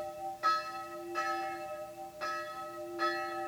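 A church funeral bell in the narrow cemetery of the Hungarian town of Sopron tolls steadily for a dead old man, four clear strikes with rich ringing overtones that hang and blend between hits, with no voices.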